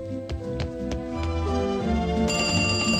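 A telephone rings with quick, repeated bell-like strikes over a sustained tonal hum, then a brighter high ringing tone takes over near the end. It is fairly loud, with no talking.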